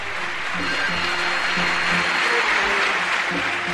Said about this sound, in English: That applause tells us that … has walked out onto the stage.